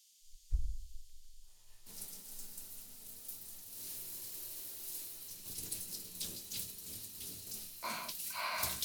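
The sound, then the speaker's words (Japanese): After a brief low thump, a steady hiss of running shower water starts and keeps spraying, with splashy fluctuations as it rinses shampoo out of hair, fizzing as it washes off, continuous. “じゃあシャワーで流していくっすね。”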